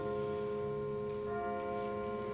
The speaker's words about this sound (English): We'll let those bells finish and then we'll get started. Did anybody ever count how many dings? I didn't count any.